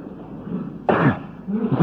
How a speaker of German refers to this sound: Es nützt nichts, du brauchst nicht zu husten, das hilft mir nicht.